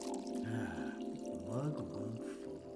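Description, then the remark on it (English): Wine pours into a glass in a steady, gurgling stream for about three seconds, its tone rising slightly as the glass fills, at a moderate level with no talking. “yes, I will have a glass of wine. Thank you very much.”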